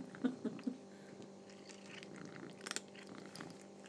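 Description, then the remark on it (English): A cat purrs as it crunches on dry biscuit treats with a creamy filling, with a quick run of crisp bites early on and another sharp crunch later, over a low, steady rumble. “Crunch, crunch, crunch.”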